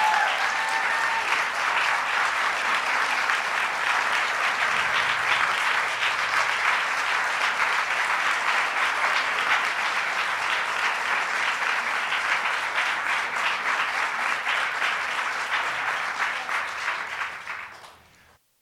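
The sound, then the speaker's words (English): Sustained audience applause for special guest Sarah Weddington, who argued Roe v. Wade, on the 46th anniversary of Roe v. Wade: a dense steady wash of many hands clapping at full strength for about seventeen seconds, then tapering off quickly at the end. No voices stand out. “Let's give Sarah a big round of applause.”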